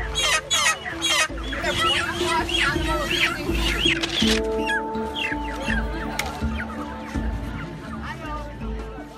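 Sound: chicken clucking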